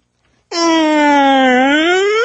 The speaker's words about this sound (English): I'd hit the siren going home.